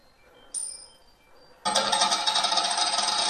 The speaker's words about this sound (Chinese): 我这次说正面。叮咚叮咚。 嗯哼。 请抛硬币。